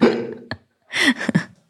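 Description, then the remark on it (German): A voice mimics a fart with a few short, sputtering mouth noises, a brief blurt followed by a pause and then a longer buzzing burst, fairly loud. “Geräusch ist der Furz.”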